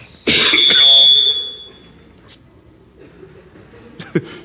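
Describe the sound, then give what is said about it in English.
A loud, harsh cough from a preacher reading scripture bursts out and rings on for about a second, followed by quiet and a smaller throat sound near the end. “Pray that I don't have to cough anymore.”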